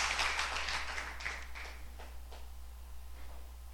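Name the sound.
audience hand clapping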